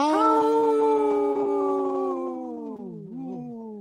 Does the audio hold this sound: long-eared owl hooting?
no